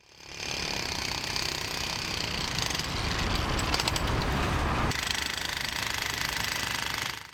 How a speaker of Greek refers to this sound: Το κέντρο του Ισλαμαμπάτ είναι ένας πολυσύχναστος κόμβος κυκλοφορίας και οικοδομικών εργασιών.